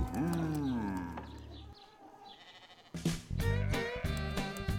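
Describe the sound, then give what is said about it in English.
One of Farmer Brown's cows moos in a long, wavering call that rises and falls. A short pause follows, then louder, busier vocal sounds take over, full. “All day long he hears. Click, clack, moo.”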